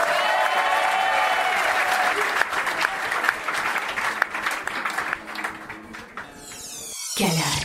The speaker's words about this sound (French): Ça s'applaudit bien fort.